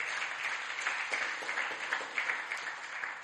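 A crowd at Last Adam Tabernacle applauds steadily, many hands clapping at once in a dense, even wash of sound with small bursts rising above it, sustained throughout without any talking.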